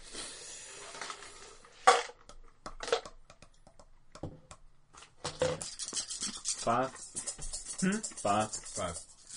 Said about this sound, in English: Jeez, how many dice are you rolling there?